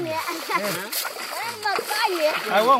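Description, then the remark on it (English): Water splashes and sloshes steadily as older men in a river in the DRC swirl water in a pan to sort diamonds from soil, while several children's voices talk and call over it. “They deliver it to older men in a river who use water in a pan to sort diamonds from soil.”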